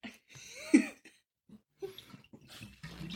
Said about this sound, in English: It's such an awkward bottle. It looks cool, but it's awkward to pour out of, isn't it?